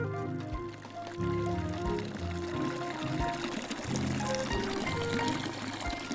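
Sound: water pouring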